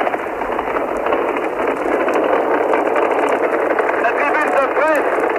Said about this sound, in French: La tribune de presse tremble sous l'onde de choc du départ de la Saturn V. La tribune de presse tremble sous l'onde de choc du départ de Saturne V. Nous étions en décembre 1968.